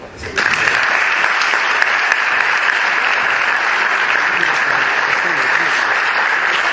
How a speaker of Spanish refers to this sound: Ahora sí, don Luis, es su momento, es un turno. Fuerte aplauso.